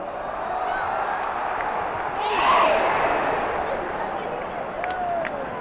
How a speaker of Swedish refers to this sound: Publikens entusiasm över det svenska lagets insatser visade sig inte bara genom jubel och applåder.